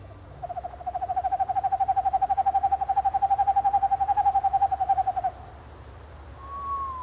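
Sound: owl hooting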